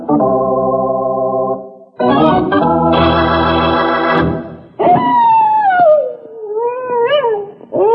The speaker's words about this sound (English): That coyote's either got a stomach ache or he's hungry. If he'd come on down to the bunkhouse, I'd fix him right up with a big bowl of Rice Krispies. Hey, coyotes make many different kinds of sounds out here.